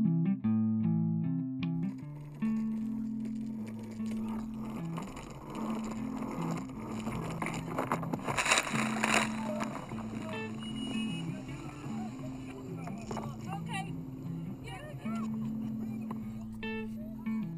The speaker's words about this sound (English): Sorry, the boat rocked ever so suddenly before I could tell you where we were going. It must be Kelly, or is it Bessie, or even Locke Simcoe? Are you alright? Nobody is hurt. That was quite a wake that just hit the boat.